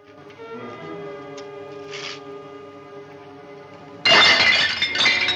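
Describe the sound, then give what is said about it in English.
Soft, sustained tones hold for a few seconds before roof tiles suddenly rain down from a roof into a courtyard all at once, a loud burst of shattering and clattering pieces that continues to the end. “When roof tiles suddenly begin to rain down on them, they look up to see a prisoner crawling across the roof on his stomach.”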